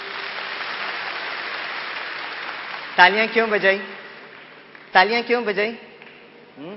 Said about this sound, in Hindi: जोर से तालियां बजाइए।